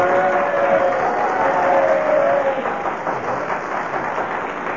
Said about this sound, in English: Well, I must say, that is the first time... That's the first time I've heard anybody promote himself and get a round of applause for it.